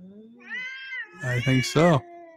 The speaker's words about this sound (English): That ain't the kind of cat fight I'm used to seeing, but all right.